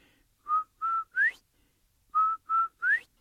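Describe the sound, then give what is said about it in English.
Someone whistles a quail-like call twice: two short steady notes and then a third that sweeps upward, clear, with a brief pause between the two phrases and no talking. “Give me my whistle back.”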